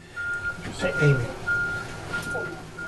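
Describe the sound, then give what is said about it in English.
An ambulance backing in at the UGA Institute for Disaster Management during a preparedness exercise sounds its reversing alarm, a steady series of long, high-pitched beeps over a low engine rumble, with muffled voices murmuring in the background. “Back at the UGA Institute for Disaster Management, an ambulance backs in.”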